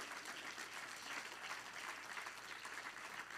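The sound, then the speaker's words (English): A church audience claps for Jesus steadily, dense overlapping applause holding at an even, fairly loud level throughout with no voices rising above it. “See, there are some people that won't give Jesus any claps.”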